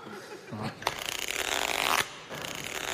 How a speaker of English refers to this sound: Oh! That zip stuck again.